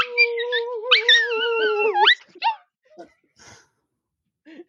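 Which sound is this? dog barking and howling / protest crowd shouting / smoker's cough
dog barking and howling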